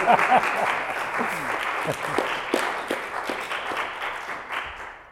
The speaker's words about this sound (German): Könnt ihr ruhig klatschen, ja?